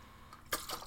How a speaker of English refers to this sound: I just want to have a drink of water here for a minute.